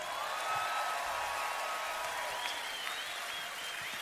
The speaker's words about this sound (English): The sexy dancing stars. Give them another big round of applause, ladies.